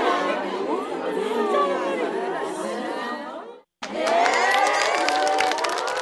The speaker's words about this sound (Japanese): 今回その第一弾としてサウンドツールとして持っていると便利な少人数の監修のガヤ拍手をお届けできることになりました。